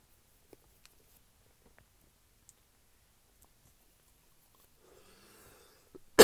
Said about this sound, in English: Like I said, I ain't got no water. But clear my throat.